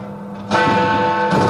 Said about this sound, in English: Happy New Year. Is that actually Big Ben? That is Big Ben. They fixed it.